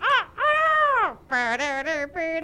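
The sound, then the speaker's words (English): A person loudly imitates a crow call: one long, rising-and-falling cry followed by a quick run of three or four shorter, choppy bursts, with no talking. “I got a crow.”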